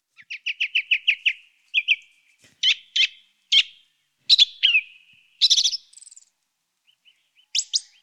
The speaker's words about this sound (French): En fait, j'en ai choisi une, en fait, qui est la grive musicienne, par exemple. Bon, alors, on va l'écouter, alors. Allons-y.